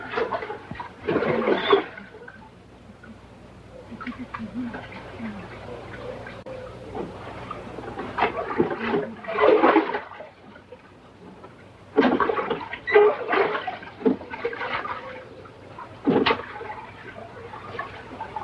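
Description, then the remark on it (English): Water splashes and sloshing come in irregular strokes as a woman leans into the oars of a rowboat on a river, with a steady low hum of moving water underneath. “leans happily into the oars.”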